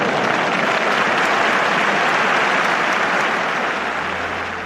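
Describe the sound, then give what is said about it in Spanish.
Sustained applause from a large crowd at a bullfighting fair in Seville as matador Manuel Escribano takes another lap of the ring, a dense continuous wash of clapping that stays loud throughout and eases slightly toward the end. “Y además me apetece destacarlo por lo demostrado en esta feria y por ser el encargado, además de poner el cierre a una feria, la del Rabo de Morante, histórica, y que se dé otra vuelta al ruedo entre aplausos, Manuel Escribano.”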